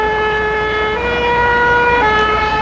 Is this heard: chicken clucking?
no